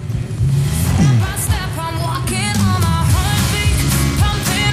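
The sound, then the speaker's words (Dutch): Race car engines roar loudly and continuously as the next cars drive out onto the track, their pitch rising and falling as they rev and pull away, with several engines overlapping. “Ondertussen gaan de volgende auto's weer de baan op.”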